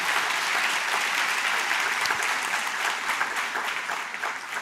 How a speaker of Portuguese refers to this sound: Você pode aplaudir ao nosso Deus por causa disso?